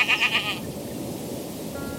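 A wild goat among bushes beside a hiking route gives a single short, wavering bleat, fairly high and nasal. It fades into a steady low rumble of wind-like background noise from a sea breeze. No voices.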